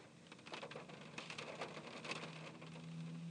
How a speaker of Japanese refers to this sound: あられ降ってきたよ、あられ。すごい風。聞こえる？これ、あられだよ。うわ、風もすごい。